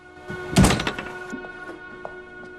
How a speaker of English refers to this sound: Holding a cardboard box, Ellie lets herself into Meadows' house, using the same key Daniel used. She shuts the door behind her.